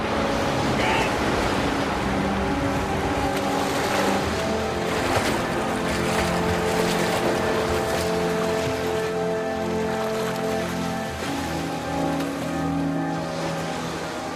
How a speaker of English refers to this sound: The foliage snaps and they both fall into the river. They zoom down the rapids with their arms flailing.